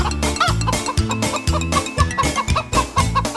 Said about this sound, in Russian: Наши курочки в окно. Ко-ко-ко, ко-ко-ко.